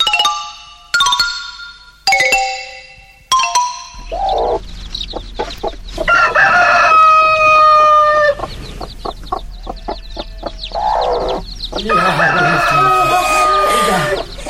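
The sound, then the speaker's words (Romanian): Four short bright tones ring out, then a loud, close barnyard chorus breaks in: a rooster crowing amid busy, overlapping hen clucks and cackles that continue to the end. “Ia, înțelepte, Solomon, pe cocoș fă-l să învie și Galina și-a ei pui sănătoși din nou să fie.”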